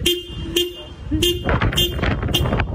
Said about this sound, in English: A dog in Ireland, apparently annoyed by the wait, jumped in the driver's seat and just kept laying on the horn with some moral support, it seems, from another furry friend in the back.